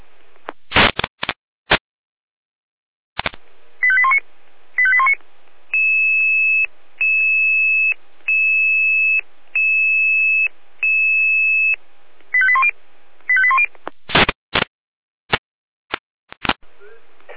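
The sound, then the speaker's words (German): A sequence of electronic emergency-service alerting tones: sharp clicks and chirps, then five steady, evenly spaced high beeps, followed by more chirps and sharp clicks, alerting the Eisenberg emergency crews to a tree on the A9 motorway. Loud, with no voices. “Alarmierung.”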